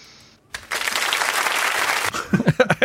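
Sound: applause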